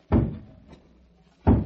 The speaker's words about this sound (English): Just bang that knocker a couple of times